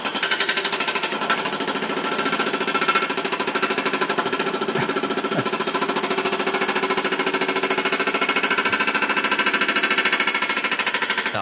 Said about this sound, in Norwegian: Dette er altså et faktisk lydopptak fra leiligheten min i natt. Hva er det for noe? Det er hakkespett. Det ser forferdelig ut. Det er Trondheim kommune som river opp asfalten utenfor leiligheten 12:30 på natta.